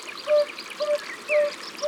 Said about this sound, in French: 10 mai, 6h du matin, nous sommes au bord d'une rivière qui court entre les rochers et il y a des sonneurs à ventre jaune ici.